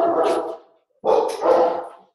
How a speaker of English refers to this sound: My dog's barking at somebody. Can you hear that badly or no?